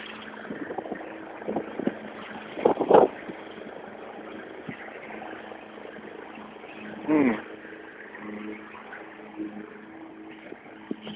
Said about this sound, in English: Oh, and here's the lady with the mower. So I'm not going to talk while she's mowing, or while I walk by.